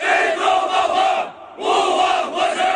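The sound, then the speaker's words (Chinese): A large group of new recruits, on their first day at a Xinjiang Military District comprehensive training base, shouts the slogan "精忠报国，勿忘国耻" in unison on the training ground after training. Two loud, sustained chanted bursts are separated by a brief pause, the massed voices blending into one powerful roar. “随后他们齐声高喊精忠报国，勿忘国耻，铮铮誓言响彻练兵场。”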